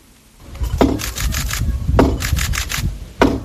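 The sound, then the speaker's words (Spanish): Three heavy hammer knocks, struck by the Archbishop of Santiago, Monseñor Julián Barrio, with an oak and silver hammer bearing a medal of the Virgin, hit the large wooden holy door of the church of Cee for the jubilee year at a slow, steady pace, each blow ringing out in a reverberant space over a low murmur. “los golpes con los que con un martillo de roble, de plata y la medalla de la Virgen ha dado el arzobispo de Santiago, Monseñor Julián Barrio, a la puerta santa de la iglesia de CEE.”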